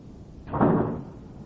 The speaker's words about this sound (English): Can you open and close that door for a second and see how it sounds?